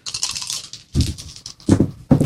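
Three Rory's Story Cubes dice clatter and tumble across a hard tabletop in a few quick bursts as players each roll them, each a rattling cluster of sharp clicks, fairly loud, with no voices.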